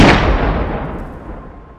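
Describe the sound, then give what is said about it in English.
A loud gunshot inside a building cracks out and rolls away in a long, rumbling echo that slowly fades, its sharpness quickly dulling as if muffled by walls. No one speaks. “I will say, as you walk away, you do hear gunshots from inside.”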